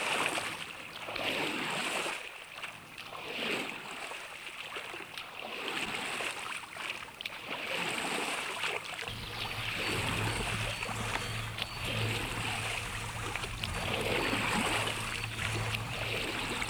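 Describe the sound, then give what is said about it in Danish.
A small boat moves across water with steady sloshing and lapping; partway through, a low, constant rumble joins underneath. No one speaks. “Så nu kan jeg se, at Ane er gået i båden.”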